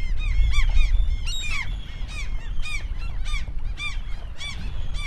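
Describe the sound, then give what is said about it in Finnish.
A colony of gulls calls loudly and continuously at their nests, many harsh overlapping cries repeating over a steady low rumble of wind, with no one speaking. “Ah, täällä on joka puolella lokinpesiä. Oh, tossa on 3 munaa. Siitä nousi just yksi lokki pois.”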